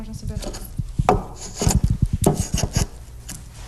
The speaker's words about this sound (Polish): Możemy sobie zobaczyć, jak kiedyś szlifowano czy heblowano właśnie za pomocą takiego ręcznego hebla.